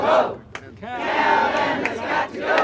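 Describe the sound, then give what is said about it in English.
Dozens of protesters opposing a proposed desalination plant chant and shout together in front of Monterey City Hall on a Monday, voices rising in loud, sustained waves with brief dips between, several sharp accents breaking through the collective roar. “Dozens of people who oppose the desal plant gathered in front of Monterey City Hall on Monday.”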